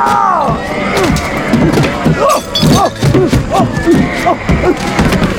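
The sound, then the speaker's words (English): A man in long underwear tumbles down the fancy curving staircase of his mansion: a rapid, uneven series of loud, heavy thuds and bumps, mixed with his yelps and groaning cries throughout the fall. “ultimately falling down his own fancy curving stairs in his long handles.”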